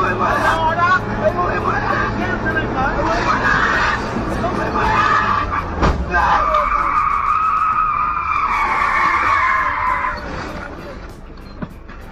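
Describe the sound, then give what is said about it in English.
A car driven recklessly roars along with loud, sustained tire screeching as it skids and slides, the squeal rising and holding for several seconds over engine noise and a murmur of voices. “Oh, I've driven reckless like this before, but I do it just to be a fucking asshole and to freak people out.”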